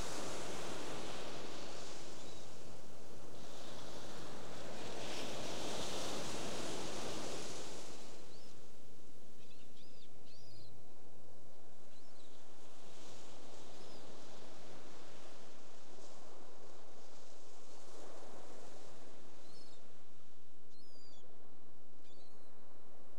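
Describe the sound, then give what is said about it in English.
Ocean waves swell and recede in broad washes of surf, rising to fuller surges every several seconds, with faint high bird chirps scattered above the steady roar and no voices. “The sound of the waves, internal sounds, a sensation, a smell, a thought.”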